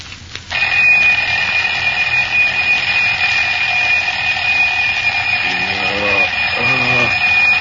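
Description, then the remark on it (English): A loud alarm clock bell rings continuously in a modest home in a small Texas town in the early morning, a bright metallic clatter that starts abruptly and keeps going without pause, with faint low voice-like murmurs briefly underneath toward the end. “Oh, darn that clock. Get up, Sue. Past seven, almost.”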